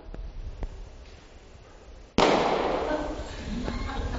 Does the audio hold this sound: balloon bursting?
yes